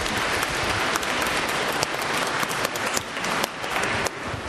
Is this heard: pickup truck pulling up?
no